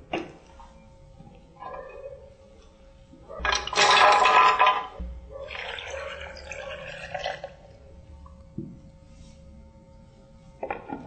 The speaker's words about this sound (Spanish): Finalmente le agregamos la leche de coco, para la cual la vamos a preparar acá en la licuadora.